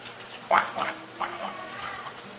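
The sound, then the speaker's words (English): A voice imitates ducks quacking: a few nasal quacks in an uneven run, the first loudest, the rest trailing off softer, clear over a faint background hum. “And Prabhupada's point was, the duck that quacks the loudest gets the bread.”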